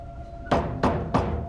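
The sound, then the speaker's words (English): Three evenly spaced knocks on the doorframe of a partly open hatchway, each a sharp, fairly loud thud with a brief ringing tail, over a low steady hum with no talking. “He knocks on the doorframe.”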